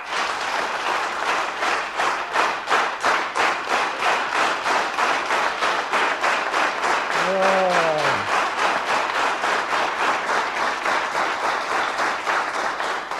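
A large crowd bursts into sustained, thunderous applause, dense clapping rolling steadily for the whole stretch, with a brief voice cry rising midway through the noise, greeting news about Romania's leader Ceausescu on 22 December 1989.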